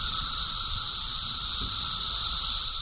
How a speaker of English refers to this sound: Trillions of cicadas are starting to emerge above ground in the eastern U.S. Not millions or billions, trillions of these insects, from Indiana to Georgia to New York.